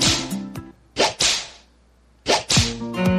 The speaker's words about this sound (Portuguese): Prepara o lombo que lá vem chicote.